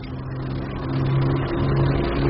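A steady, droning aircraft engine runs loud, its low hum wavering slightly as the pitch rises a little midway through, with no voices over it.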